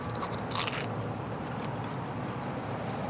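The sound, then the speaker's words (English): A loud crunch as someone bites into a crisp grilled pork sandwich with pickle and melted cheese, its bread crunchy from the griddle, followed by a few softer crackly chewing sounds with no talking. “I'm going to dig in and let you know how we did today.”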